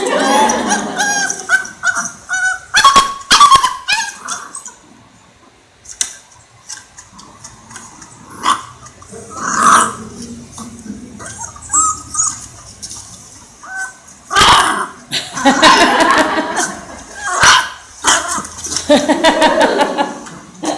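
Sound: puppies barking and growling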